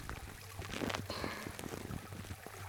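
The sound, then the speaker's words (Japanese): A soft, continuous fizzing and crackling of foam bubbles in an ear during an ear foam-cleaning treatment, with tiny pops scattered through a steady hiss and a low rumble underneath, no voices present. “ほら、シュワシュワした音、結構心地よくお耳に響いてこない？”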